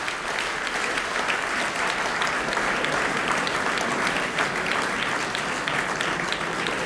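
Sustained audience applause for the chamber choir Kamerkoor Next fills the whole stretch, a dense, steady patter of many hands clapping at even loudness, with no voices standing out above it.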